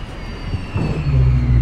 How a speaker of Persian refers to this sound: پرنده ها؟ لعنت. خدای من. یه موتور داره از کار میفته.